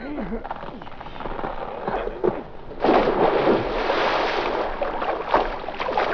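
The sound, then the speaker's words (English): A voice speaks briefly, then a truck shoved by two men plunges into water with a loud splash, followed by sustained churning and gurgling as it sinks, fairly loud. “As the truck submerges, the two men climb into the waiting car, which is being driven by a woman.”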